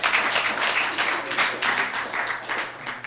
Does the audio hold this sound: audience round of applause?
yes